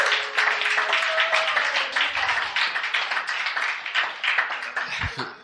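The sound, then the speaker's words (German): An audience claps in sustained applause for Jesus, a dense steady wash of many hands, with faint voices and a held tone murmuring underneath. “Jesus, geben wir Jesus einen Applaus.”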